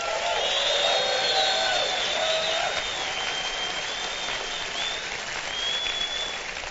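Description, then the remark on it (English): A church audience applauds loudly and steadily to welcome radio listeners from around America, with high whoops, hoots and hollers rising above the clapping throughout, a continuous wash of cheering that barely dips for several seconds. “If you're listening by radio and you're wondering, what's the hooting and the hollering? It's just our way of saying hello, right?”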